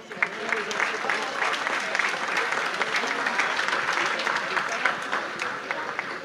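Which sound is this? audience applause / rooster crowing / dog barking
audience applause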